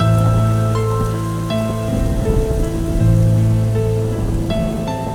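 Steady rain patters continuously, a dense even hiss of drops, with soft sustained musical chords ringing beneath it and shifting every second or so. No one speaks.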